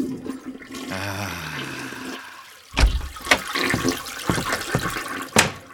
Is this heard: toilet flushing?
yes